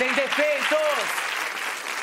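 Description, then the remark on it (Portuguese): Steady audience applause, a dense even patter of clapping sustained for about two seconds, with a voice calling out over it during the first second. “Aplausos para a enciclopédia de …”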